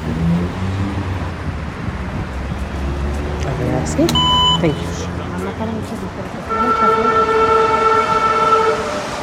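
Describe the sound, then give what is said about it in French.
A metro train rumbles past with a loud, steady roar, a brief horn blast sounding midway, then a sustained high whine as it continues by, with faint voices in the background. “On arrive bientôt au métro.”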